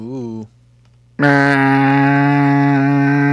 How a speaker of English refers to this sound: We need a new siren. We need a new horn. We got to change that. I'm tired of the boat horn, the fog horn. I'm tired of it.